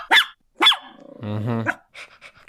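A dog gives two sharp barks, then a drawn-out, rumbling growl with a whiny edge, followed by a few soft, short grumbles. No one speaks.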